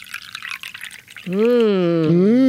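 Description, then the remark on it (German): A voice imitates Earl Grey tea pouring from a Regency-style teapot, first with a hissy splashing burst, then a loud, sustained wavering tone that holds steady to the end. “Dazu natürlich Tee, Viscount, wenn Sie mir bitte einschenken würden. Sehr gern, aus einer Oma-Tasse.”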